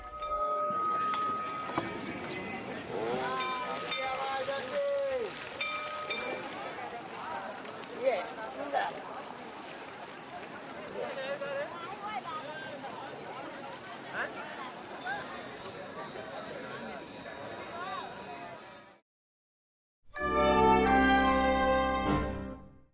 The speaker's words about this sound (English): As we leave you, Hindus in India mark the lunar eclipse by bathing in the Ganges River.